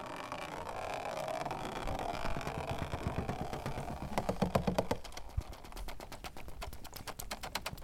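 Seawater from bottles drips and patters onto a plastic bowl and thin tin, starting over a steady low rumble, then becoming a rapid, irregular stream of sharp, bright taps and clicks.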